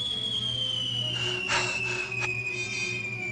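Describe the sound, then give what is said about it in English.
A cartoon-style falling whistle, the sound used in the Roadrunner cartoons whenever something drops, like Wile E. Coyote falling off a cliff: one high, thin tone glides slowly and steadily downward in pitch for several seconds, over a low steady hum and a few brief bursts of hiss. “You know how in the Roadrunner cartoons, whenever something drops, like Wile E. Coyote falling off a cliff, it makes this sound?”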